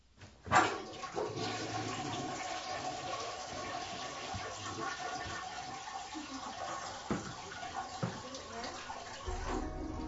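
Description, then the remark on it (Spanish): A toilet, being tried out after plumbing work, flushes with a sharp onset, then water rushes and swirls steadily for several seconds as the tank refills, loud and continuous with no voices over it. “¿Cuándo podré usar el inodoro? Puede probar ahora.”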